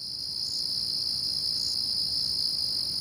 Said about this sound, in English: the wood crickets arrived with some plants from the New Forest